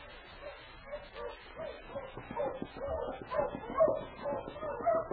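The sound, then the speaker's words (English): A big team of husky sled dogs barks and yips in an overlapping, excited chorus on a trail up north, steady and growing a little louder toward the end. “They had a big dog team and lots of supplies.”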